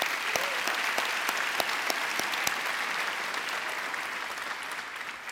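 A sustained round of audience applause, dense and steady with sharp individual claps standing out early on, gradually thinning slightly toward the end, given to a man who has just spoken about what Jesus did in his life.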